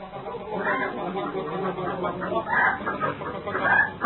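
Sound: hens clucking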